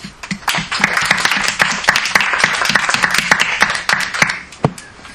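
Audience applause fills the whole stretch, a dense, steady patter of many hands clapping at a fairly loud, even level with scattered sharper claps standing out.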